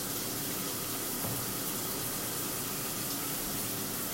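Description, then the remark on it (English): Shower water runs in a steady, unbroken hiss and patter, fairly loud, with no voices over it. “But, since I tend to be thinking of you in the shower anyway, well, I thought I would take you into the shower with me.”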